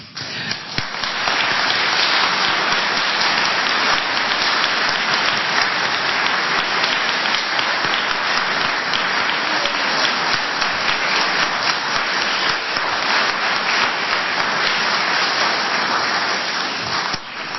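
Sustained audience applause fills the whole stretch, a dense, steady crackle of many hands clapping at an even loudness without pause, with no voices standing out.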